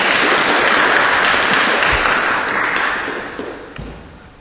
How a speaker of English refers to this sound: I would like to give a big applause to our panelists and to the discussion.